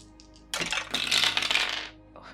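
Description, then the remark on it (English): Dice rolled for a luck roll clatter and tumble across a hard surface for just over a second, a bright, rapid rattle of small clicks that swells and then stops, with no talking. “Roll your luck for me.”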